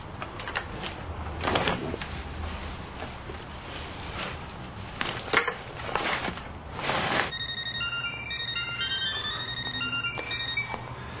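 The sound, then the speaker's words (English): A few seconds of clattering, shuffling noise give way to a telephone ringing: a bright, trilling electronic ring that repeats steadily over a low background hum, moderately loud. “That's no way to answer the phone.”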